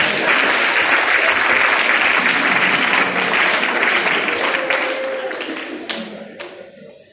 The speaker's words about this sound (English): Give me a clap.